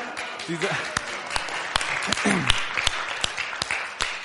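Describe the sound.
Steady applause from a crowd, many hands clapping in a dense wash with sharper individual claps standing out, while faint voices murmur underneath.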